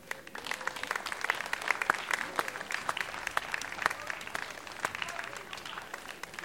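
An audience at the statue of Mama Branca applauds steadily as a speaker is introduced, a dense wash of many hands clapping with sharp individual claps popping out, holding an even level for several seconds before easing slightly at the end.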